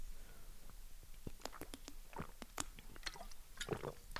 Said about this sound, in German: Ich muss einen Schluck Wasser trinken. Hoppa, gut, dass hier ein Wasser steht.